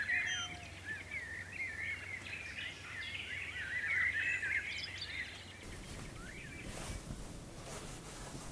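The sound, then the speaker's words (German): Several birds sing and chirp busily in the morning over a soft, steady outdoor hush; after several seconds the song fades behind a broader rushing, wave-like wash. “Ich wach auf und bleib noch einen Moment im Bett liegen, hör den Vögeln zu und lass mir Zeit, richtig wach zu werden.”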